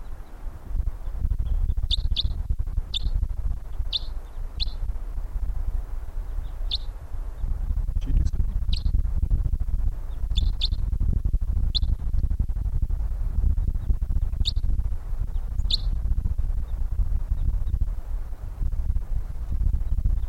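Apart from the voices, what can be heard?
wild birds calling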